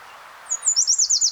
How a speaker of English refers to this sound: I'm not sure what kind of warbler this is, but I'm gonna record it.